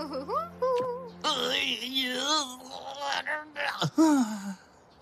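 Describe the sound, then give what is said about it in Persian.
A person cries and wails loudly, the voice rising and falling in long wavering moans broken by short catches of breath, ending in a falling sob. “چی باز باسه چی بازش گریه کردی؟”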